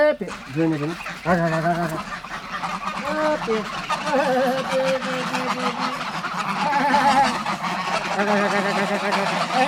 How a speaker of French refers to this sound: Hopé. Le canard, les oies, tout le monde me répond.